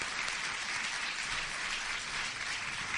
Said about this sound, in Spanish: Un aplauso para él.